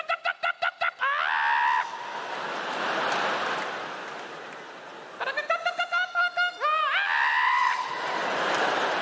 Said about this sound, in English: And it seemed like all the lovely daytime animals were instantly replaced by the night shift crew. Yeah. Birds making the most sinister sounds I've ever heard in my life. Literally.